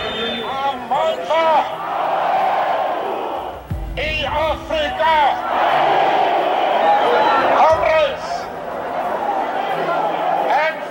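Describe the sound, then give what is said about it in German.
A large crowd cheers and shouts without pause, a dense wash of many overlapping voices with rising yells and whoops breaking through, loud throughout with a brief low thump midway, as a jubilant crowd greets Nelson Mandela after his release from prison in 1990. “Begrüßt wurde Mandela von einer jubelnden Menschenmenge.”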